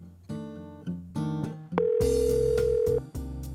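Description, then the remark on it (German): A telephone ringing tone sounds as a steady electronic beep, holding for about a second over a loud, busy musical backdrop, with no one speaking, as a call is placed to register for horseback rides. “kümmert sich am Telefon um die Anmeldungen für die Ausritte.”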